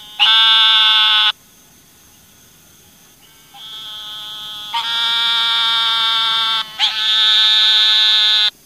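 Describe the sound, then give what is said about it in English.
An eastern narrow-mouthed toad gives three loud, drawn-out, buzzy nasal calls like a sheep's bleat, each lasting one to a few seconds, separated by brief pauses, with no voices present. “The eastern narrow-mouthed toad's call sounds like a buzzy nasal wah, or the sound of a sheep lasting from 1 to several seconds.”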